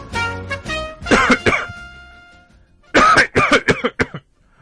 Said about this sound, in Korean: 아유, 이거 정말 죽겠네. 감기가 잔뜩 들어서 기침도 나고 콧물도 나고 죽겠다.